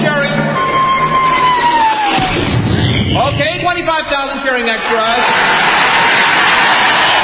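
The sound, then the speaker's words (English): A huge crowd of 25,000 extras roars and cheers continuously, a loud dense wall of voices, broken early on by a falling whistle-like tone and a heavy crash as a 10-ton maraschino cherry is dropped into whipped cream, before the cheering swells again. “Then the Royal Canadian Air Force will fly overhead towing a 10-ton maraschino cherry, which will be dropped into the whipped cream for the cheering of 25,000 extras.”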